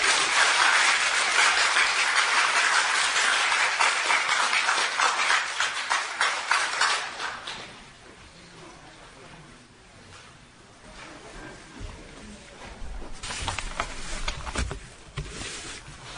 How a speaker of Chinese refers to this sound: 弟兄姊妹，大家刚才鼓掌，有些人是出于礼貌，还有些人是为这刚才姊妹他们所做的见证，从心窝里面掏出来的见证分享，